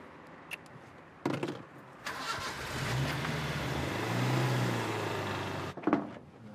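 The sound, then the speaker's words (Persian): A car engine starts with a sharp burst, then revs and hums steadily as the vehicle drives off, the low rumble swelling and fading before a door-like thump near the end. No talking. “بیا ماشینو بیار، من خوبات باید بریم جایی.”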